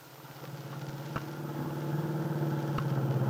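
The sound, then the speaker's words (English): A car engine hums steadily as the car is driven toward the Lane Farm on Willow Road on a Sunday afternoon, its low drone growing gradually louder, with a couple of brief clicks or bumps along the way. No one speaks. “Del Shipley, with Aunt Mary on the seat beside her, is driving her car toward the Lane Farm on Willow Road.”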